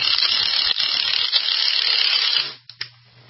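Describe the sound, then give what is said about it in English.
A power tool tightening a car's lug nuts after a new brake rotor is fitted gives a loud, continuous rattling buzz for about two and a half seconds, then cuts off, followed by two brief clanks over a low hum. “I got to get those lug nuts tight so the new brake rotor doesn't come off.”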